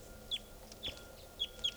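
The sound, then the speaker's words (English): A wild red male fowl, down in a tree near a truck and the cages of new captives, gives four short, high calls, each slurring slightly downward, spaced unevenly over a low, steady background hum. The calls are fairly faint and no one speaks. “That was the wild bird there.”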